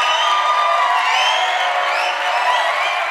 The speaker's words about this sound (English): Cue the applause. The cat. Do I have the applause button? You should.